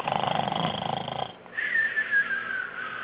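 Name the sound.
person imitating snoring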